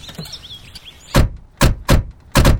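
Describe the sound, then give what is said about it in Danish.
Four heavy car doors slam shut one after another in quick, uneven succession, loud, after a quieter stretch with faint high chirping in the background. “Det var da utroligt så mange døre, der pludselig er i den her bil.”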